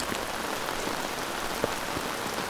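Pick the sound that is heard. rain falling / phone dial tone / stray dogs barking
rain falling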